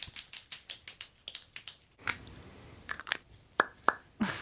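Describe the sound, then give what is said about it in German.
A fountain pen cap is popped on and off over and over, making sharp plastic clicks in a quick, steady rhythm at first, then slower and more spread out. “Das war eine Füllerkappe auf und zu so ploppen lassen.”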